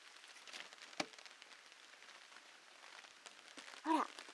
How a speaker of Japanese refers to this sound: パラパラってビニール傘に雨が当たる音が聞こえてきましたよ。今お客様と私は相合い傘して雨の中を歩いてるの。